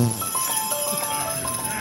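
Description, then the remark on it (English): Bright jingling of small harness bells rings out in quick, uneven bursts, with a low rustle and shuffle beneath, as a horse shakes its bells. “They're always shaking their bells at me.”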